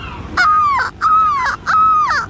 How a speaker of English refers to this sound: Look, Daddy, the birds are following us. Those are seagulls.